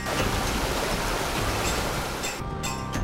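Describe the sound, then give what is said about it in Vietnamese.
A steady rush of flowing water from a mountain stream running over rocks at a Thai village in Tú Lệ, continuous and fairly loud with a faint tonal hum beneath and no voices. “Ven theo con đường núi thơ mộng, đến với bản Thái ở Tú Lệ, để hòa mình vào dòng suối sinh dưỡng mang nguồn năng lượng của núi rừng.”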